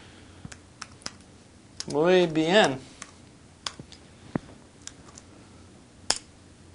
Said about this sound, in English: Okay, so I just typed that in Spanish. And let's go back to, that's on my one of my Windows slates, my Asus Windows slate.